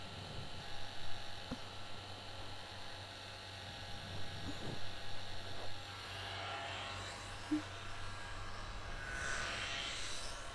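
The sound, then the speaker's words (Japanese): A hair dryer blows steadily with a droning motor hum and airy rush, growing a bit breathier and brighter toward the end, with no talking, as hair is dried while being gently brushed, with the air aimed from above. “ドライヤーで乾かしながら、ブラシで優しく溶かしてあげるのも大切なの。”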